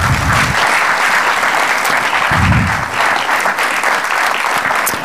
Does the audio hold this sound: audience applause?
yes